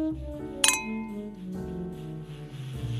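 A single bright clink of wine glasses touching in a toast, ringing briefly over a soft musical background with no talking.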